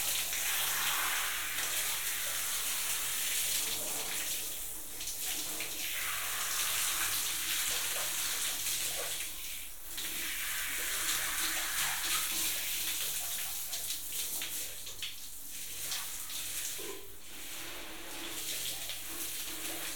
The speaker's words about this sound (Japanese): 体洗うのはこれくらいでおしまいにしよっかね。はーい、一回泡流すよ。